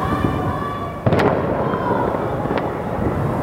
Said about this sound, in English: It was the eve of Revolution Day, marking the anniversary of the 1979 revolution, and the regime was kicking things off with a fireworks display.